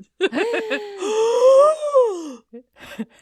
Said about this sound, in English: And of course, everybody gasps. So many gasps. Gasps all around. I gasp. Gasp.